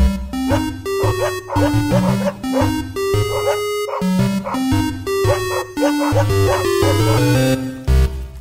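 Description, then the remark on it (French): A bouncy musical jingle built from pitched dog barks, the yaps stepping up and down in a melody over a steady bass line, loud and continuous throughout. “Wouf! Yes, sir! Wouf. Yes, sir!”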